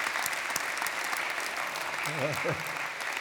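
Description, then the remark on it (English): A large student body in a chapel claps steadily throughout, a dense wash of applause, with a brief voice rising faintly beneath the clapping near the end. “Applaud yourself for embracing the faith. Yes, applaud God.”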